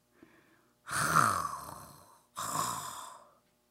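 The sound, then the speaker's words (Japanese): A voice imitates a man snoring as he lies down on a futon after eating and falls asleep: two drawn-out, raspy snores, the first longer and rougher, the second slightly softer, with no other sounds around them. “横になった途端に、といびきをかいて寝だしたんじゃ。”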